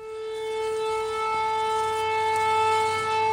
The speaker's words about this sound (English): So we've just arrived at a bakery in Kostantinivka, and as soon as we got out of the car, there was the thud of incoming artillery, followed by the siren. You never quite get used to it.